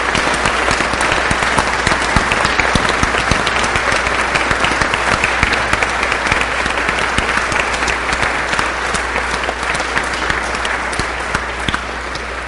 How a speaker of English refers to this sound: And as a sign of that welcome, let us clap our hands with joy and thanksgiving.